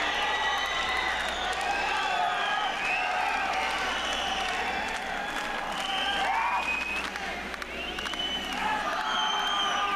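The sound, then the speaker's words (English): A large crowd cheers and applauds continuously, a dense wash of clapping with whoops and shouts rising above it, loud and sustained throughout with no pauses. “So we go from that to the crowd cheering to now this haunting kind of wind noise, this howling wind”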